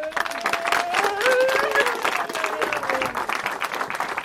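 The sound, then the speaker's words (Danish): An audience gives a big round of applause in recognition of people's work, a dense wash of many hands clapping at once that holds strong throughout, with a few faint whistles and tonal cheers rising above the clapping. “Jeg synes, de fortjener at få en stor klap.”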